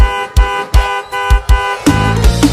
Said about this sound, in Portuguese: Ou se ela vir me dar um beijo e falar que eu tô perdoado. Se ela não vir, eu continuo buzinando.